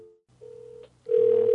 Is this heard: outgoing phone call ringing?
yes